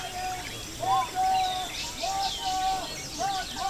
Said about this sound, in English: Bird songs and prayer chants faded into the forest as I walked away from the lake.